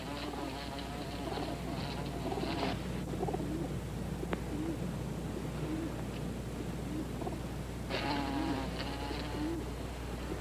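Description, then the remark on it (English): A bee buzzes near someone's nose in two drawn-out bursts, one at the start and another near the end, over a steady low background hum, with no talking. “There's a bee near your nose.”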